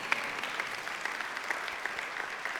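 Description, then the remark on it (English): Sparse, thin applause from an audience, a scattering of light hand claps with a few sharper individual claps standing out, fairly quiet and steady for a couple of seconds with no voices. “That was a weak clap.”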